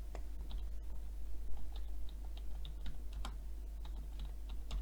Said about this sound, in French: J'indique ce que je recherche et je peux appuyer sur la touche Entrée de mon clavier pour valider le résultat.